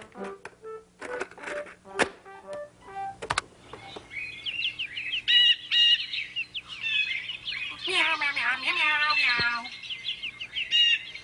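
Busy bird chirps and tweets, played from a tape in a tape player, sound in quick bursts throughout, with a single drawn-out cat meow rising through the middle of the chatter. No one speaks.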